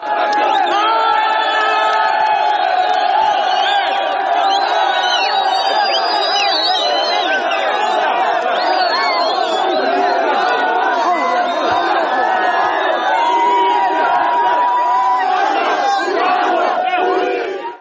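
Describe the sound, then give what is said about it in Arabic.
A large crowd of supporters of Libyan leader Gaddafi chants and cheers loudly and continuously as his son Saif al-Islam makes statements, many voices merging into a dense roar with rhythmic shouted slogans and occasional whoops, sustained throughout without a break. “وأظهرت اللقطات المصورة التي عرضتها وسائل الإعلام أن نجل القذافي أدلى بهذه التصريحات وسط هتافات أنصار الزعيم الليبي.”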